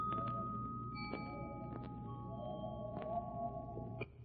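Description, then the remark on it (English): The temple bells of Niban, heard in an apartment, ring out in three soft strikes, their clear, high tones lingering and overlapping above a steady low hum, with no voices. “here we sit in your apartment listening to weird temple bells”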